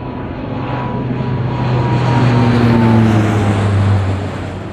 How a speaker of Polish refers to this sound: około godziny 8.30 pojawił się nad Poznaniem samolot rozpoznawczy, który spowodował uruchomienie syren alarmowych.